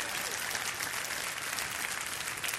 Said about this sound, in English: come on, if you're going to clap, don't patty cake. Let's go ahead and do it.